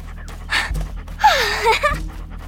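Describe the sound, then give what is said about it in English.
A Labrador dog lying down pants in two breathy bursts, the second longer and carrying a faint whiny squeak, over a low steady hum. “The lab lay down beside her, panting and grinning.”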